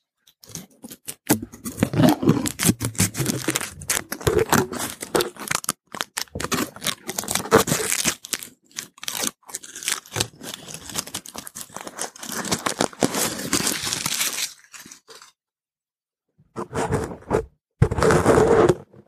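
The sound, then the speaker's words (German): Aluminium foil being unwrapped from a chocolate Easter bunny: sustained bright crinkling and crackling with irregular bursts, a short pause near the end, then a final loud rustle of foil. “Jetzt machen wir einmal ein bisschen ASMR und ihr hört jetzt mal, wie ich meine Alu-Verpackung von meinem Osterhäschen aufmache.”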